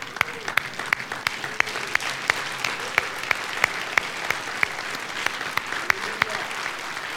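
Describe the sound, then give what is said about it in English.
An audience at a Christmas service rises and applauds Jesus steadily, with dense clapping that carries sharp, regularly spaced louder claps through it, like a few people clapping in rhythm. Faint voices murmur underneath. “Please rise up, rise, and give him another big applause.”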